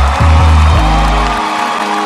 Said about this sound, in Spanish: Un fuerte aplauso para este hombre valiente